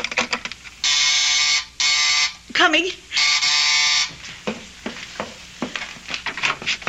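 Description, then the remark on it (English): A door buzzer sounds three times in loud, harsh bursts, the middle one shorter, followed by someone briefly calling out and some shuffling movement. “Oh, someone at the door.”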